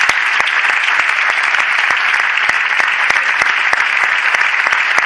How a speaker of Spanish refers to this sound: Bien, pues este primer premio es muy merecido, como todos los cuadros que vamos a entregar, y es para Tintas Martínez Ayala. Un fuerte aplauso para esta empresa.